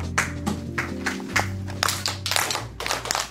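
A series of sharp hand claps in an uneven, patterned rhythm, about eight in all, each a crisp bright smack, over a steady low hum with no one speaking.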